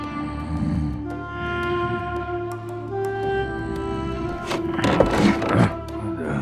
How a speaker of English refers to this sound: Falcon wasn't sure why the creaking floorboard had awakened him, but now he lay in bed, very quietly, trying to hear another sound.